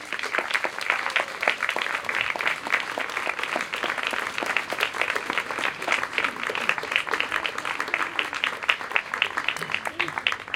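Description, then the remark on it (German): A crowd gives welcome applause for the originator of the project and the owner of the house, a dense, even patter of many hands clapping at a constant moderate volume for about ten seconds, with no clear pause or swell. “Bitte für alle diese Leute einen Willkommensapplaus.”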